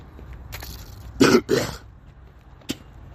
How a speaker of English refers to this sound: It's clear, don't worry. Still coughing up stuff. Still getting over it. I was ill, I was sick.